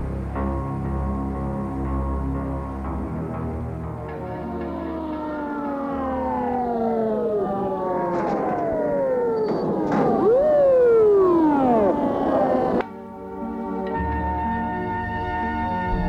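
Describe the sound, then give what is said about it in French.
An ambulance siren, on an ambulance sent by a clinic to pick up an unconscious patient, wails loudly, its pitch sweeping up and down in repeated overlapping cycles over a steady droning tone, then cutting off abruptly. “Elle a envoyé une ambulance pour prendre le patient, qui est toujours inconscient.”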